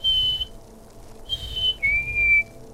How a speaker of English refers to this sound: I hear that bird all the time. Like around like my own house. Whenever I'm like outside.